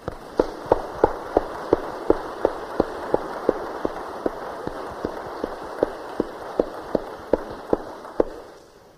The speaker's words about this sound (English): And I think that's great news. Shall we give him a clap?